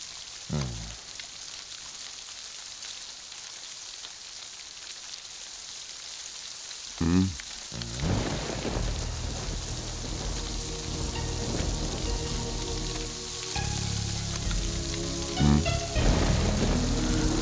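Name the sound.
heavy rain falling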